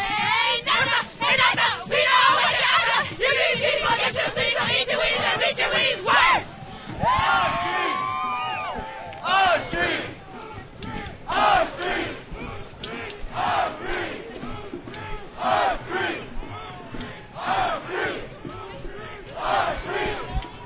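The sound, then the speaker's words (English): The Radical Cheerleaders, a group of feminist activists, perform rhythmic chants during a street march. A crowd of voices shouts and chants in loud, rhythmic bursts, with whoops and cheers rising over a steady wash of noise, then settling into shorter repeated call-outs. “The march was punctuated with performances by the Radical Cheerleaders”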